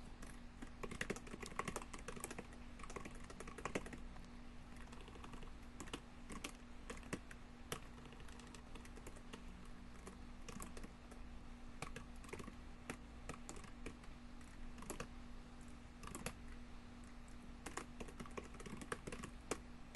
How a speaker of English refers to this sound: So let's see what that would look like if you can follow along as I'm typing over here.